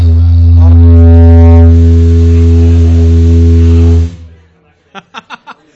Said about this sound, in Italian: È praticamente arrivato il vaporetto da Cesenatico, no? Spacchiamo i vetri. Con lo strumento fa un suono bellissimo.